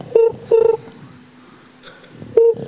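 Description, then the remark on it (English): Three short electronic tones sound clearly, spaced unevenly as a number is dialed on a phone, with a fainter high beep in the quiet gap between them. “He pulls out his phone, dials a number, and waits for someone to pick up.”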